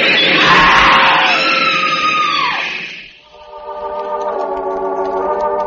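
A loud, harsh screech of a train grinding to a halt at a station platform blends with a woman's piercing scream, then fades into a steadier droning whine as the train settles. No one speaks.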